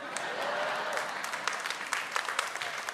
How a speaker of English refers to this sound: And all the people who didn't applaud, you're the cold ones. No, kidding. It's too late now. Ooh, no, it's too late. Those of you that half clapped, you're the lukewarm ones.